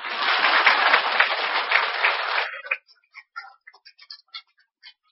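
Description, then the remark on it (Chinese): An audience at a Buddhist master's talk gives a burst of dense, steady applause lasting a couple of seconds, then it breaks off into a handful of scattered, isolated claps trailing away. “现在鼓掌吧。”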